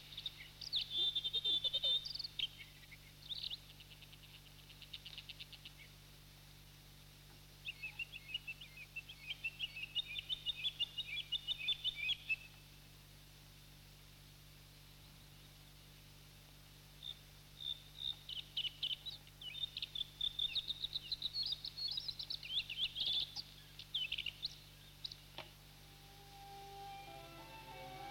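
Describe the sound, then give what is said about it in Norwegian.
A bluethroat sings in repeated bursts of varied, high-pitched chirps and trills, fairly clear against a steady low hum, with short pauses between phrases. “Blåstrupen holder til der det er bjørk og vir, og reiret sitt bygger den nede på bakken i tørt lenne.”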